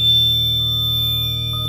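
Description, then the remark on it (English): A small synth played through the Bit Collider effect: a loud, steady drone, buzzy and harsh, with a rapid stuttering flutter in the low end and thin high tones above, holding unbroken throughout. “Let's turn on the bit collider just to make some noise.”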